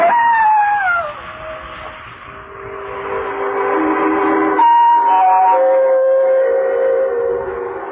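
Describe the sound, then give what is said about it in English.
A distant jackal howls at night in long, wavering cries that slide downward in pitch and overlap, sustained through the whole stretch with no one speaking. “I must admit that the howling of the distant jackal even made me nervous.”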